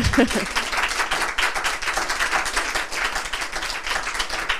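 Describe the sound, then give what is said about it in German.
An audience in a room at a summer festival applauds steadily after a talk, a dense, continuous wash of clapping that holds at an even level throughout, with a brief voice at the very start. “Also vielen Dank, dass Sie da waren, dass Sie uns zugehört haben und Sie dürfen gerne klatschen.”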